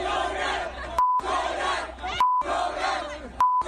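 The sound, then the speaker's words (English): A rowdy crowd of people out in the street, angry after a show was canceled, shouts and chants loudly, cut off three times at regular intervals by short, steady censor beeps that replace the noise each time. “that's when the people out in the street started going nuts, and here were all the videos on WorldStar”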